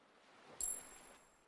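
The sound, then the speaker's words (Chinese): A single bright metallic clink of a coin, with a thin high ring that lingers briefly before fading. It's fairly quiet, with a soft rustle around it and no voices. “你看这枚硬币”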